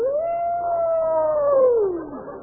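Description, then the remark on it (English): A single long wolf howl, a steady mournful tone that holds for about two seconds before sliding downward and trailing off. It is loud, with no talking over it. “And the mournful cry of a dead wolf.”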